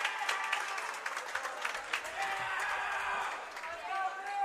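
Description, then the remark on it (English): Steady crowd applause fills a large basketball arena, dense and continuous for a few seconds, with cheering voices and some talking blended into the roar, as player Kaufman comes out of the game after a free throw. “Kaufman will come out to some applause.”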